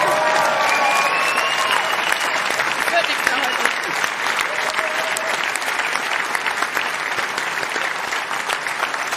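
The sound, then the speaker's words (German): Sustained applause from an audience for a coach and coaching team, a dense steady clatter of many hands clapping at an even loudness for the whole stretch, with a few faint voices and cheers mixed in. “Ja, danke erstmal für die Worte, für den Applaus, glaube ich, da nehme ich sehr, sehr gerne stellvertretend dann zu unser Trainerteam an.”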